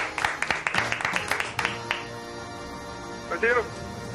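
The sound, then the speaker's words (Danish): A short burst of hand clapping for a player who has won a game, quick irregular claps that thin out after about two seconds, followed by a brief voiced sound. “Ja, vi bliver nødt til at klappe dig.”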